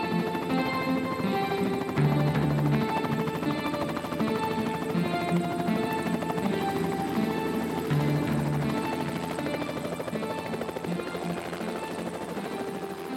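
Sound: helicopter taking off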